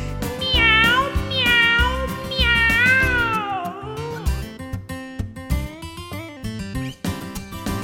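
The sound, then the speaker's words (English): Two long, sliding cat meows ring out loudly over bouncy backing music, followed by a brief higher mew as the music carries on. “And the cat.”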